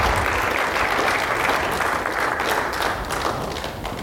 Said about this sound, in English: Let's give the Lord a good clap offering here this morning.